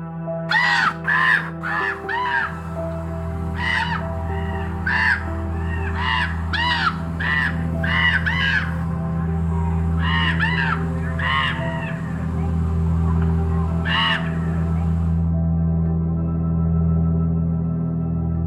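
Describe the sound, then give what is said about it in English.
A chorus of raven calls from several large black ravens in a Joshua tree, harsh croaking caws tumbling out in quick irregular bursts, loud, over a steady low background hum, then falling quiet near the end. “So a Joshua tree full of these particular large black corvids means a whole chorus of Weird Annie's back-asswards raven call.”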